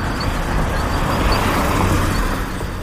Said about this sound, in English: Okay, this sound I know is a car.